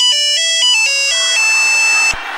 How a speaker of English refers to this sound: Do you have the monophonic Nokia ringtone? It's about 3 seconds.